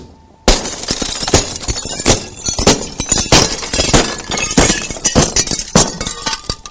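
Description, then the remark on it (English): After a brief silence, a hammer smashes into glass with a loud crash, followed by several more sharp blows and a long run of shattering, tinkling shards for several seconds. “Take a hammer.”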